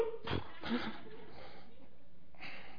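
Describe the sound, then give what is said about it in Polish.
A voice imitates the hiccups of a man at Christmas midnight Mass who drank too much at Christmas Eve dinner: a few short, breathy gulping bursts, two close together and then one more after a pause, loud. “I zachowuje się właściwie, ale ma czkawkę, bo przy kolacji wigilijnej za dużo wypił.”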